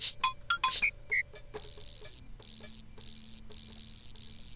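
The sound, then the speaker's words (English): A crunchy cricket-style percussion instrument: a few quick clicks and chirps, then four loud, high, buzzing rasps in a steady rhythm, separated by short gaps. No one speaks. “It's a crunchy cricket.”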